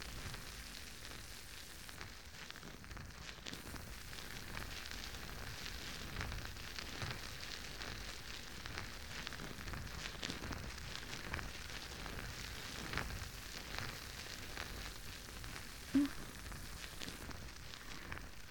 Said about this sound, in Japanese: 泡もすごくもちもちで、きめ細やかなので、こうやってしっかり坊ちゃまのお耳をマッサージしても、中に泡が流れ込んでいかないですし、すごくいいですよね。